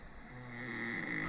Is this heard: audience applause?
no